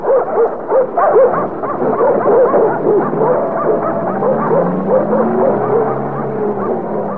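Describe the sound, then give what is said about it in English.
A pack of dogs barks and yips over one another in a steady, loud clamor, with whining, drawn-out tones rising through the commotion toward the end. “Now, I better get out of here before them dogs catches on to the fact that they ain't following the brunt to store a special no more.”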